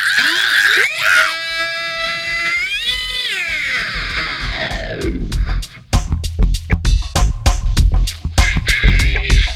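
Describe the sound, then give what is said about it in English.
A loud, high-pitched person's scream wavers and bends in pitch for several seconds, then fades as a run of sharp, rhythmic percussive hits takes over. “Scream one more time.”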